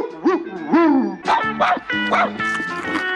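A couple of drawn-out, up-and-down dog yelps ring out loud, then give way to bright, steady musical tones with more barking woven through.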